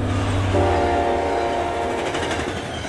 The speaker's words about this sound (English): I'm on a train journey across a country I don't know.